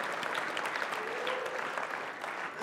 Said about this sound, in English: Come on, yeah, he's worthy of a clap right there. Come on, hallelujah.